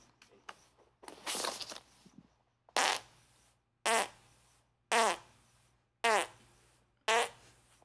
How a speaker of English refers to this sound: The number of farts you can squeeze out in one session is impressive.